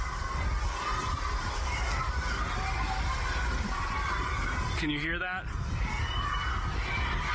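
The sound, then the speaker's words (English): A crowd of detainees shouts "Let us out" in protest during a demonstration inside ICE's Dilley family detention facility in South Texas. A steady roar of overlapping voices runs the whole time while a man speaks over it and one voice briefly rises in a wavering cry. “There's a demonstration of detainees taking place inside right now.”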